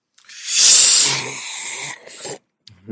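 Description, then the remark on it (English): A loud, airy slurp of someone sipping Lipton tea, about half a second of hissing intake, followed by softer breathy sounds and a brief swallow-like tail. “It was a very dark point, bro, but let me sip us up.”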